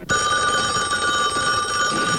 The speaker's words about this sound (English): Your phone's ringing.